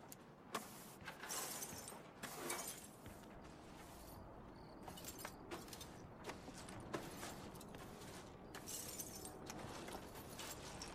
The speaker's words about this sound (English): On the porch at night, Jim sweeps the broken glass.